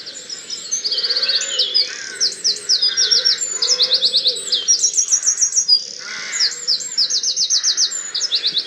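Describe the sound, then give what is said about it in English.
A wren sings loudly and continuously, pouring out rapid high-pitched trills and chattering bursts in quick succession over a low, steady background rumble, with no voices. “I've just got a rain here beside me.”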